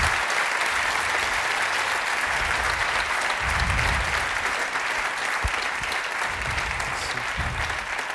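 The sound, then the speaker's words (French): Steady, sustained audience applause for the evening's guests fills the whole stretch, a dense wash of many hands clapping at an even, fairly loud level without any talking over it. “Une bonne main d'applaudissements, s'il vous plaît, pour nos invités ce soir.”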